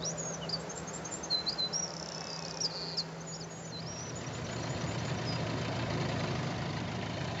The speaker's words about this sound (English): But the wren, which is a tiny, tiny little bird, and it's just sitting up at the top there, takes full advantage of it.